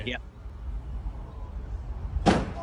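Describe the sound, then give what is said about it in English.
A single sharp, loud crunching thud of a man slamming his body into a car as if making a tackle, arriving near the end after a stretch of low, steady rumble. “It was a good crunch.”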